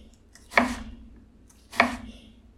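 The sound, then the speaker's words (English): A knife strikes a cutting board twice, slow and evenly spaced, each chop a crisp, solid knock that quickly fades, over a faint steady hum as an onion is diced: cuts from root to top, then in half, then horizontally into little dice. “So I'm doing, like, the cuts that are from the root to the top, and then in half, and then again the other way, like, horizontally, so that they're in little dice.”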